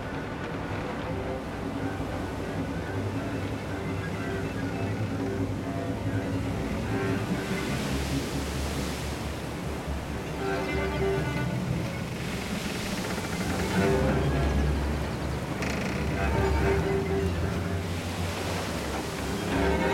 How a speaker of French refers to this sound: Le vent se lève et la mer s'agite.